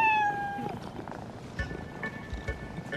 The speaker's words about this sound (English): Ooh, I like your boots. They're not boots. They're my cats. Oh, my goodness.